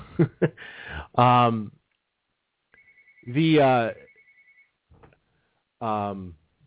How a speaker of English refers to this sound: Can you get that superstar? Can I get what? The phone. I did not hear your phone. Oh, it's going off.